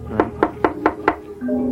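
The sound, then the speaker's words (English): Five firm knocks on the door of a dark, ramshackle house at night, in a steady, evenly spaced rhythm, solid, followed by a faint sustained low tone as the knocking stops. “Try again.”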